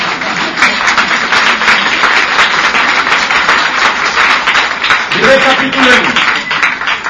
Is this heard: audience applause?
yes